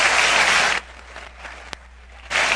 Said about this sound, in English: Applauding and laughing at this.